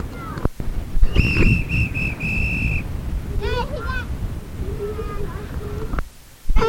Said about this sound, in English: blowing the whistle.